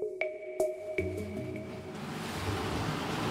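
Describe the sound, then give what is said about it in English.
Water drips and sloshes against the hull of a small boat called the Buccaneer, then a broad rushing wash of churning sea around islands with jagged rocks swells up and fills the rest of the moment, steady with no voices. “These islands are plopped down in churning waters with jagged rocks rising all around like the jaws of some sort of mythical sea creature.”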